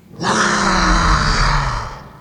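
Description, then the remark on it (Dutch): A voice imitates a dragon's roar as a dragon greeting: one long, loud, breathy growl lasting about two seconds, with a low rumbling tone that slowly sinks and fades at the end. “Adem maar diep in door je neus en als je uitademt, brul je net zo hard mee.”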